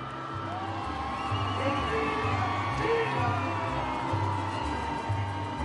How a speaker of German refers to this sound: Es war ein Empfang, wie er dem Papst in Europa nie zuteil wurde. Mit großem Enthusiasmus begrüßten 700.000 jubelnde Menschen Benedikt in Mexiko.